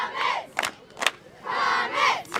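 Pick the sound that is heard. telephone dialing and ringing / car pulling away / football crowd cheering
football crowd cheering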